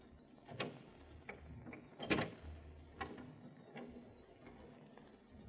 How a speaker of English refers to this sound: The lock turned, Inspector. I'll open the door.